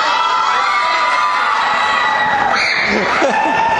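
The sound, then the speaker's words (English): A large concert crowd, waiting for the band to take the stage, screams and cheers nonstop, a dense wall of high-pitched shrieks and whoops that stays loud and steady for the whole stretch, with scattered shouting voices mixed in. “Some blood-curdling screaming going on there.”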